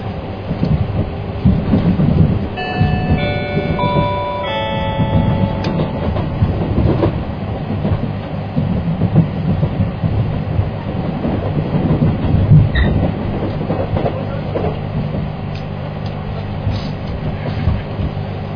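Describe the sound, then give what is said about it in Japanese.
The Limited Express Tsugaru No. 30 train rumbles steadily along the rails in snowy weather, a loud, continuous low roar with faint rhythmic clatter, and brief high whining tones near the start. No one speaks. “特急津軽30号をご利用くださいましてありがとうございます。”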